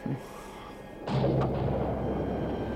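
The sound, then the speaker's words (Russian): A clap of thunder breaks out suddenly after a second of steady rain hiss, then rolls on as a loud, deep rumble that lasts to the end, during a rainy thunderstorm on a dark, cold night at a lonely house by a river. No one speaks. “Этот одинокий домишко у реки, вокруг никого, дождь, гроза.”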